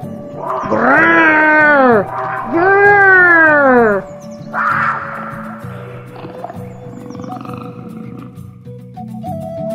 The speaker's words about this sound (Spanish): Estaban demasiado preocupados por el puma, y con razón, pues de repente se oyeron 2 terribles rugidos.